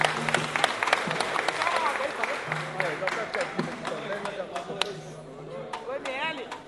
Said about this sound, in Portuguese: Muito poucas palmas, hein? Por favor, gente. Um pouquinho de moral, por favor.